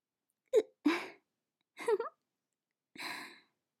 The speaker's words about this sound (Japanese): うん、やばい。しゃっくりが。しゃっくりが止まんなくなっちゃった。どうしよう。